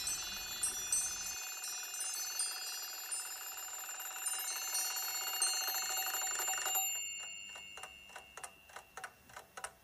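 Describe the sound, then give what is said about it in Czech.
A small blue alarm clock's bright, metallic bell rings loudly and continuously for several seconds, then cuts off, leaving a steady clock ticking in a regular rhythm. No one speaks. “Představte si malého modrého budíka, který ještě nikdy nebudil a nemůže se dočkat. Nemyslí na nic jiného, než na zvonění.”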